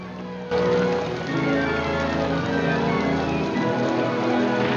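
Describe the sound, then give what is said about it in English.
Heavy rain pours down steadily in the dark after a brief quieter start, a dense, loud hiss of drops pattering on surfaces, with no voices. “It's dark, and heavy rain is falling when Kern returns to Mrs. Carson's house.”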